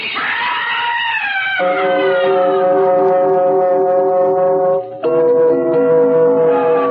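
An ambulance siren wails loudly, sweeping up at first, then holding a steady, piercing tone, breaking off briefly before sounding again.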